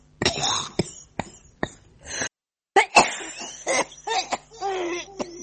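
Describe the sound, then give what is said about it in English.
A run of harsh coughs from a woman who works in an Aberdeen fish-smoking plant, an entry in the 2015 World Coughing Championship: several sharp hacking bursts in quick succession with a brief pause midway, then rougher, raspier coughing and throaty sounds toward the end. “This is Cough A.”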